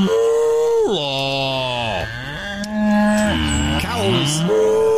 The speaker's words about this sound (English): Hey! Hey, there's a cow in here! Hey!